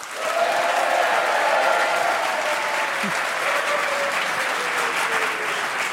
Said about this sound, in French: Ça fait plaisir d'être applaudi comme ça.